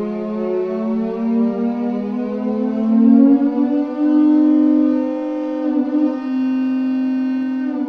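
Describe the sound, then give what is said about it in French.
Two alto sirens (musical instruments) play a sustained, harmonically rich tone that slowly rises and wavers in pitch, imitating a wailing city siren. It is loud and continuous, with no voices. “Et ça, c'est l'effet de la sirène de ville, qui est très difficile à reproduire, finalement.”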